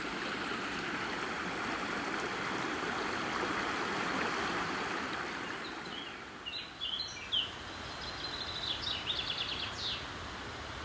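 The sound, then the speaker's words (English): A beck (stream) in a valley, flanked by alder trees and ferns, rushes and babbles steadily, loud at first and easing slightly midway, while birds chirp and twitter over the water in the second half. “After crossing the Beck, we've climbed up onto the other side of the valley,”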